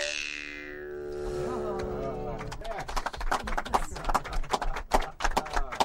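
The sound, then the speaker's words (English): A steady tonal hum fades into a busy, uneven clatter of many hooves clip-clopping, like several horses moving together over hard ground; herds of horses on hills of many colors. “We're looking at these beautiful hills of many colors and herd after herd of horses.”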